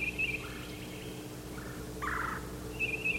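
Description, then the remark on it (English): Birds calling back and forth in short, bright, mid-pitched bursts, a bird called Yellow Yellow and another bird down at the crossing answering each other with brief pauses between, over a steady low background hum. No one speaks. “Another bird down at the crossing initiated this exchange. And they're calling back and forth.”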